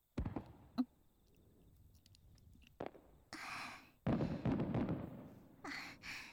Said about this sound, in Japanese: もう一つ上がった。綺麗。夏の夜、縁側でこうやって花火を見ながら冷たいものを楽しむ。